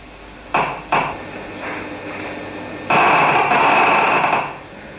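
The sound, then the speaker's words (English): Crackling discharge of a monkey's neuron from an electrode recording, as the monkey observes the experimenter grasping: two brief sharp bursts of static-like clicks, then a longer, dense, loud volley of crackles lasting over a second before it drops away. “And then you will hear again the discharge of the neuron.”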